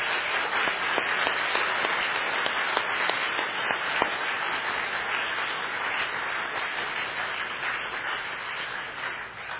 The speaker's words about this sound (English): Let's give them a big round of applause and thank them.